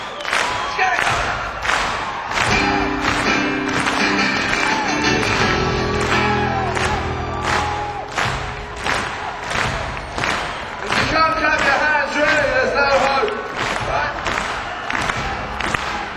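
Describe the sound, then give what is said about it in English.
A crowd claps in a steady, even rhythm, roughly one clap per beat, while singing voices and music carry on underneath, loud and full. “Tell you what, if you can't sing, clap your hands, all right?”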